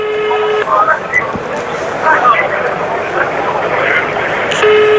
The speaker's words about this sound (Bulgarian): Аз ще включа на спикър, да можем да излучим, ако той се обади. Чувате свободния сигнал сега, уважаеми слушатели. Търся Ахмед Доган.